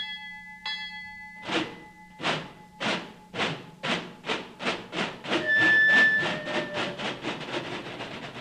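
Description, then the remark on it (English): A steam whistle sounds briefly, then a locomotive starts chuffing in heavy rhythmic bursts that quicken steadily into a rapid beat, with another whistle tone riding over the chugging. “Listen to that rhythm train, boy.”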